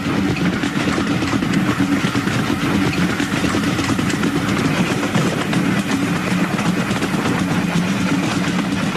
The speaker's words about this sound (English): Part of the video was shot in 1961, an amateur video, and that actually shows the train going through, packed with people,